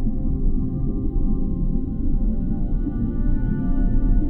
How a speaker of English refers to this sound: Let the slow dance of the magic whale enchant you with her soothing rhythm.